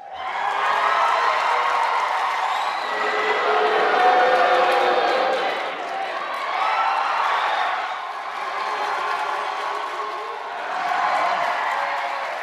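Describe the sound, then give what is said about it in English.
A large crowd of Bernie versus Hillary supporters at a debate at the Brooklyn Navy Yard cheers and shouts continuously for about twelve seconds, a loud, dense roar of many voices that swells and dips in waves, with yells rising out of the din. “Can you pick a winner in the Bernie versus Hillary supporters shout out from that debate?”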